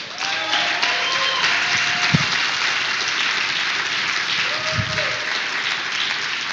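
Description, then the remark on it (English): An audience at an event breaks into sustained applause for the organising team, a dense, steady wash of many hands clapping at an even loudness for several seconds, with a few brief shouts or cheers rising through it. “Give my team a big hand clap.”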